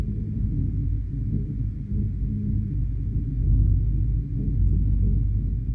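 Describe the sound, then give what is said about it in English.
A deep, steady rumbling vibration recorded from Castleton Tower, a rock tower, with a soft rhythmic throb like a slow heartbeat running through it, continuous and fairly loud with no voices. “It's a vibration, it's a resonance, but as you listen, it mirrors our own heartbeat.”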